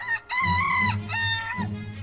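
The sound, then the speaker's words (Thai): A jungle fowl crows loudly for the first time, a harmonic, wavering cock-a-doodle call in two drawn-out phrases over a low rumbling background, with no one speaking. “เมื่อไก่ป่าส่งเสียงกันขันครั้งแรกนายพรานก็ตื่นนอนและเปิดประตูหน้ากระท่อมออกมา”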